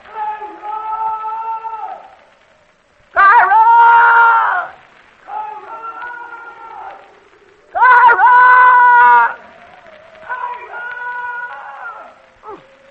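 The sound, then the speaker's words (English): A man hollers in long, drawn-out calls, five sustained strained shouts with strong harmonics and pauses between them, each trailing into a faint echo. “All them echoes, ain't no way for him to miss you and that.”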